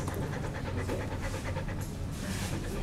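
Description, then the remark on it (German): A large grey-and-black mixed-breed dog in the waiting room of the Tierklinik Potsdam, a veterinary clinic, pants rapidly and heavily, with quick, breathy, anxious-sounding huffs in a steady, continuous rhythm throughout, with no voices. “Das grau-schwarze Tier hechelt ängstlich.”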